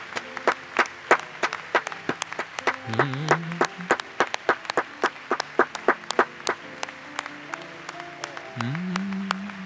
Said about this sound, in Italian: Facciamo un grande applauso al Signore. Lode al Signore.